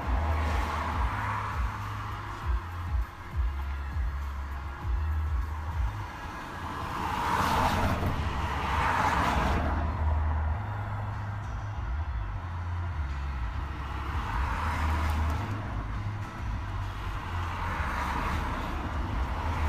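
Road traffic rumbles steadily, with a couple of vehicles swelling louder as they pass, around the middle and again toward the end, over a constant low engine drone.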